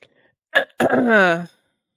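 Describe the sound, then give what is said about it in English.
A loud cough straight into the microphone: a sharp, short burst, then a longer harsh blast trailing into a voiced, falling tone, with no talking around it. “That was a nice cough right into sorry, my ear.”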